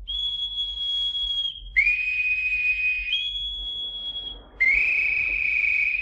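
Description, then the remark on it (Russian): A boatswain's pipe shrills out the call for all hands on deck, long, steady, piercing notes stepping between a higher and a slightly lower pitch across several seconds, loud with no voices. “Эй, боцман, свистать всех наверх.”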